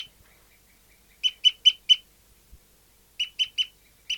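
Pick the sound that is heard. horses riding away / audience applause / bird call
bird call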